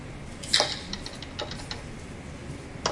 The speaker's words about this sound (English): Okay, that was one person typing a password, and this is another one typing the exact same password, different person. I'm not sure if that was audible, but the first one was fast and was hitting the keys very hard.